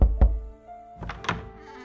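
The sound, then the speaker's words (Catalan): Two deep, heavy knocks on Mozart's door land close together, loud, followed after a short pause by a couple of lighter wooden taps. “Mozart començava a estar força malalt i seguia necessitant diners i un dia van trucar a la porta.”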